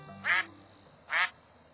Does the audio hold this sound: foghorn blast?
no